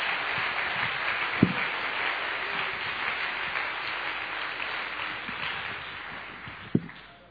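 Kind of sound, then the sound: crowd, audience clapping hands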